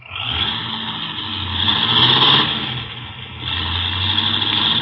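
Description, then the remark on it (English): A car with faulty brakes revs hard and pulls away in a hurry, the steady mechanical roar swelling and dipping as it accelerates off, fairly loud with no voices over it. “Golly, he's certainly in a hurry. With them brakes the way they are, he'll kill somebody if he ain't careful.”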